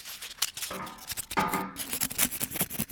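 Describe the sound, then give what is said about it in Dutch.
Styrofoam squeaking and creaking in a continuous run of harsh, scratchy rubs, with a shrill high-pitched squeal rising in the middle; no talking, just the grating friction noise. “Dat is een heel irritant geluid, hè, piepschuim.”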